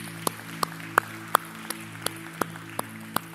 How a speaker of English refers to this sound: Give the Lord a clap offering today. Would you just praise him?